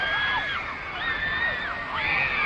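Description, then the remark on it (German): A dense crowd of teenage fans at an airport waving posters and homemade banners with hearts, shrieking and screaming at once, many high-pitched voices overlapping in sustained, wavering cries that rise and fall without pause. “Schließlich steigen sie die Stufen der Gangway hinab und sehen, die kreischenden Teenager schwenken Plakate und selbstgebastelte Banner mit Herzen”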